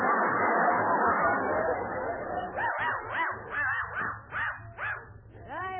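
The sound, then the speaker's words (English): A dachshund whimpers and yelps in a quick series of high, rising-and-falling cries, fairly loud, after a burst of busy, overlapping noise at the start. “This dog is a genuine Dachshund.”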